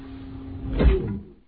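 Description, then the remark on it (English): A door seal engages with a brief mechanical whoosh and low thud, rising over a steady background hum and fading out within a second, moderately loud, no voices. “Then the sound of the door seal activating.”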